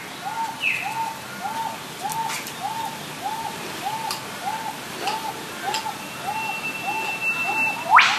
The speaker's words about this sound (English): And from the Sunshine Coast hinterland, Deanne sent in this gorgeous set of bird sounds.